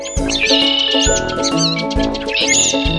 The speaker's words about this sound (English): was open, the birds began to sing.